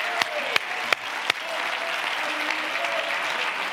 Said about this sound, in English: Oh, would you clap your hands and shout with your voice?